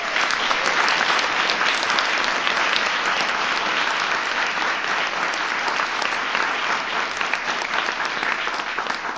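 Sustained audience applause, a dense, steady wash of many hands clapping at a fairly loud, even level for the full nine seconds, with no voices standing out.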